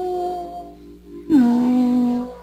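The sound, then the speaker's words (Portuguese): A drawn-out, wolf-like howl: one wavering tone, a short pause, then a second, louder, steady howl that holds for about a second before fading. No talking. “Parece um lobo no cio.”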